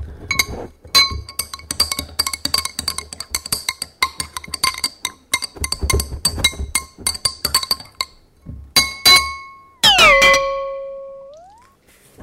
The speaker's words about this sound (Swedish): Då rör vi om det här bara.